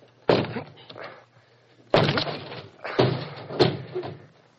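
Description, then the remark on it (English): A study door being forced open: four heavy, irregularly spaced bangs and shoves against it, each loud with a brief rattling, creaking tail before the next blow. “Can you force the door?”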